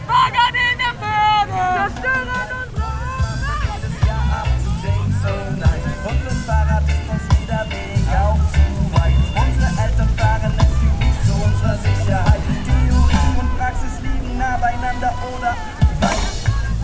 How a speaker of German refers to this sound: Der Demonstrationszug setzt sich Richtung Innenstadt in Bewegung.